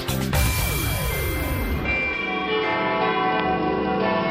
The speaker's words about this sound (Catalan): Tenen alguna cosa en comú les campanes de la Catedral de Girona i del Sagrat Cor del Tibidabo i les Paelles Castell?